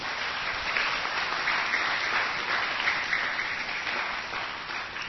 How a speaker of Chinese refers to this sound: 我们要不要跟他一起学习？要，请掌声鼓励。